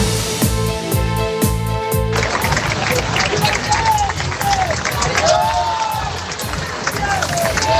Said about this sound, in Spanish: Estos son los aplausos, los vítores con los que se recibió a la familia real a su llegada al desfile del 12 de octubre.